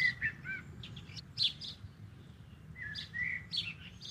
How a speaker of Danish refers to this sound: En solsort, en gråsborg, en stær og en svale. Okay, du kunne simpelthen høre forskel på fuglen?